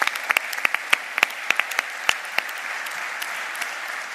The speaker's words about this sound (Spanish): Y seguro que es un éxito esta edición del Blue Forum. Pues un fuerte aplauso.